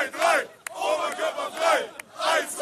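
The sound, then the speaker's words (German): A huge crowd chants in loud, rhythmic unison outdoors directly in front of a stadium, demanding "1, 2, 3, Oberkörper frei!" (shirts off), voices rising and falling in repeated phrases, with a couple of sharp claps or bangs cutting through the chant. “1, 2, 3, Oberkörper frei! Wie das Publikum fordert.”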